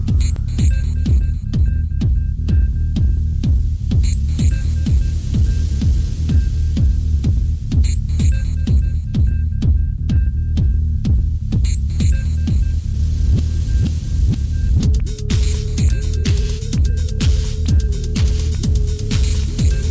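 A loud, driving techno track with a heavy throbbing bass and a steady pounding beat, joined near the end by a sustained synth tone. No one speaks.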